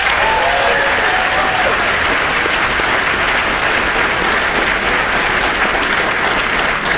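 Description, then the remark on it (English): The studio audience of Wait Wait... Don't Tell Me applauds steadily for several seconds as tightrope walker Nick Walenda is welcomed, a dense, loud wash of clapping with no talking over it. “I was thinking there were easier ways to get a round of applause.”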